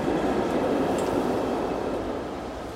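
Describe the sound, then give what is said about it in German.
A tram rumbles along its rails with a steady, dense mechanical noise that stays loud throughout, easing off slightly toward the end. No one speaks. “Von da kommt die Straßenbahn.”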